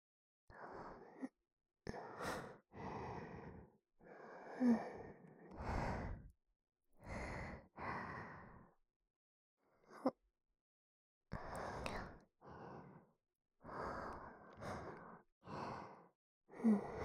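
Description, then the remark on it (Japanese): Heavy breathing picked up right at the microphone: a steady series of audible breaths and sighing exhales, about ten over the stretch, separated by brief silent pauses, with no talking. “ところで、この息遣い、マイクに乗っちゃうかな。”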